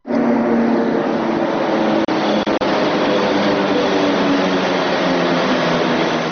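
A Beovoz Belgrade suburban commuter train pulls in at a platform in the brightly lit cutting of the future Beograd Centar railway station, a continuous loud mechanical drone with faint tonal hums and two brief dropouts partway through; no voices.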